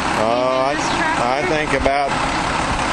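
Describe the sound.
A tractor engine drones steadily and loudly in the background while a person talks over it, the motor's rumble continuous from start to finish, as the tractor is used for work in a hay field.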